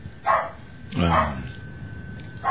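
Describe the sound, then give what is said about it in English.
Harcourt, a small dog, barks excitedly in the background, letting out three short, sharp yaps spaced about a second apart, moderately loud against a faint, hissy backdrop. “That's Harcourt in the background.”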